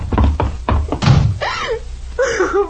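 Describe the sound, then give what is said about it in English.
A door is shut and locked: a quick run of heavy thuds and clunks, followed by a wavering, high-pitched vocal cry. “unlock this door.”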